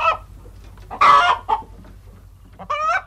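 Several hens cackle and cluck in short, loud bursts in a henhouse, with a steady low hum in the background.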